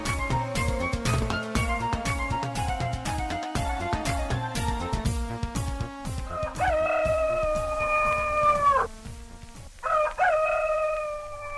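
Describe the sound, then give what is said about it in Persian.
A rooster crows loudly, two long cock-a-doodle-doo calls in a row, following a stretch of rhythmic, beat-driven music at the start. “بله، اطفال سحرخیز با صدای قوقولی قوقوی خروس از خواب میخیزن.”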